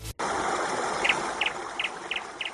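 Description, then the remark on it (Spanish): A small bird chirps in short, paired notes, repeating about five times at a steady pace over a constant rushing, water-like background noise. “Pues mira, ayer al pajarico le dijimos, venga, pues cógete puente, pero hoy está ya currando el pajarico.”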